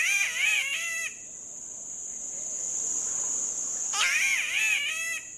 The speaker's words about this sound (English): Like its neighbor, the spotted catbird, that's nearly a foot long and emerald green with white spots.